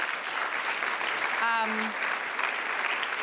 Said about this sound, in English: You know, the whole point, yeah, clap for them.